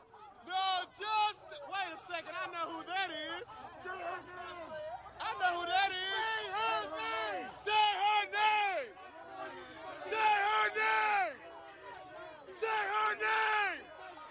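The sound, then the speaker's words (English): A loud crowd of many Black Lives Matter protesters in Washington, D.C. shouts and chants in overlapping bursts around Senator Rand Paul, repeating the rhythmic call "Say her name" with sharp yelling peaks throughout. “the Black Lives Matter mob surrounded Rand Paul and recognized who he was”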